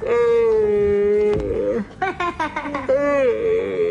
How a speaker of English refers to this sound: Do a big yawn, everybody.